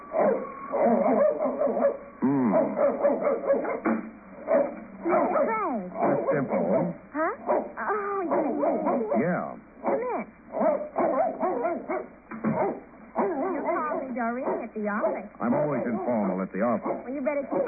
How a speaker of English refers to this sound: he always barks like that unless he's been introduced